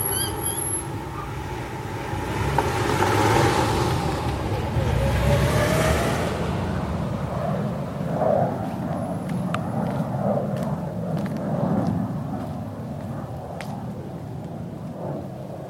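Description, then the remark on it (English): A steady low rumble of road traffic, heard from a backyard, fills the background, with a passing vehicle swelling louder early on, while faint bird chirps and small clicks sit above the constant hum. “He reckons the traffic's actually always loud, but our ears, or our brains, are used to it.”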